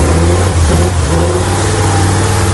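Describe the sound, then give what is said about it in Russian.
The loud engine of a 6x6 off-road vehicle revs steadily for a couple of seconds, a deep low-frequency rumble with a continuous throaty drone and no voices. “Тип привода у автомобиля 6x6. Двигатель работает очень круто.”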